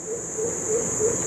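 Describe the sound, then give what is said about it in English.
A pheasant cuckoo's soft, low whoop-whoop notes repeat in a steady series, faint and distant, beneath a constant high-pitched drone of insects, heard at night in a backyard in Dutton Park. “It's a pheasant cuckoo, a magnificent beast”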